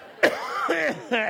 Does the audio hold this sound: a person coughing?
yes